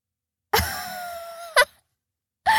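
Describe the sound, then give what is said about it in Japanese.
A person cries in a long, wavering wail that holds for about a second, followed by a short sobbing catch and the start of another cry, fairly loud with no talking. “なんなの、本当に泣いてるし、バカみたい。”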